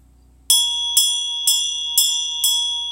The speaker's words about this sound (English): Do you still have the experience that the bell was lovely and actually made me feel better, and the bell irritated me?